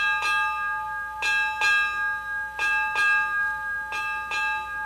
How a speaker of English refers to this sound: Eight bells also means the start of a watch in the Navy.